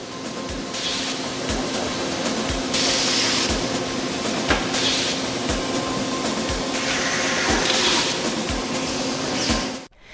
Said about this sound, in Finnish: Tämä ääni vie meidät Aalto-yliopiston laboratorioon kryostaattien äärelle. Kryostaatti on laite, jolla päästään tekemään kokeita hyvin alhaisessa lämpötilassa lähellä absoluuttista nollapistettä.